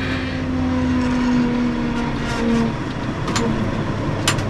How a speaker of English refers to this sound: The military's multi-million dollar machines, like this amphibious tractor, are generally driven by troops not even old enough to rent cars at Hertz or Avis.